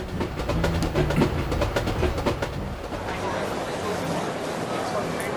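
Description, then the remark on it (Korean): A packed holiday homecoming passenger train in 1960s Korea rumbles steadily along the rails with rhythmic clicking wheel beats, loud, while a crowd's indistinct chatter murmurs underneath. “60년대 귀성은 터져나갈 듯 빽빽한 귀성열차로 상징됩니다.”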